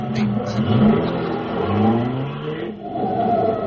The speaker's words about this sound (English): I'm going to start the car and I'll watch it because I got a pretty fast pickup.